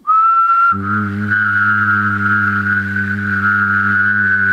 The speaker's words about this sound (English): So you should not change your air placement at all, but what I want you to do is understand that you can whistle and engage your vocal folds at the same time.